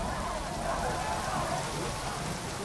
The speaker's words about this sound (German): Eine halbe Stunde später. Immer noch prasselt der Regen herab.